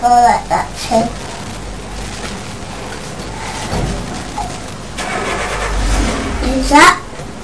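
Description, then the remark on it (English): The neighbours' car engine rumbles outside, a low steady drone that swells louder toward the end, while children's voices chatter intermittently over it. “Is that the new car?”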